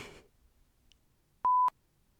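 A single loud electronic phone keypad beep, a steady tone lasting about a quarter second with clicks at its start and end, heard alone after a brief rustle and quiet background.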